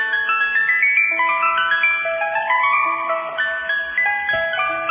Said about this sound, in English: I like ice cream, but I have to tell you, you know the sound of the ice cream truck? Oh. When you're a kid.